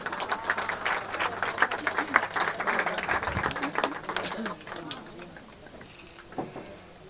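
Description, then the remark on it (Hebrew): A crowd at the Cave of the Patriarchs and Matriarchs applauds a woman called up to speak, with dense, crackling claps that hold steady for several seconds, then thin out and fade toward the end, with a few voices mixed in. “בואי נשמה, תנו לה כפיים.”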